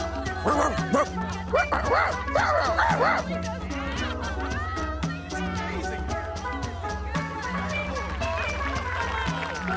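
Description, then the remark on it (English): A small dog, Cleo the Dancing Dog, yips and barks excitedly in quick bursts while dancing in a show, loudest early on, over bouncy, steady rhythmic music that keeps playing throughout. “And now, Cleo the Dancing Dog!”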